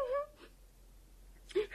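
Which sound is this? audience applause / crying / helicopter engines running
crying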